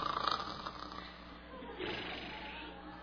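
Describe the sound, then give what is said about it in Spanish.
Soft, raspy snoring of Samson asleep in a woman's lap, with a couple of slow, drawn-out breaths, fairly quiet, heard on its own without any talking. “Y aprovechando el ronquido de Sansón, vino el peluquero.”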